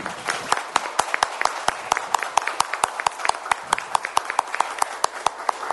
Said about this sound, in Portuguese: eu vou pedir a todos os vereadores e todos os presentes, porque 100 anos não se comemora todo dia 100 anos, né? Uma salva de palmas para o Banco do Brasil.